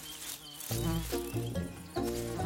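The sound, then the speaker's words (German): Swarms of cockchafers buzzing in flight around bushes in the forests around Gospic, a loud, low droning hum that swells in three or four overlapping bursts after a brief quieter start, with no voices. “Unglaublich, wie viele Maikäfer in diesem Jahr rumschwirren.”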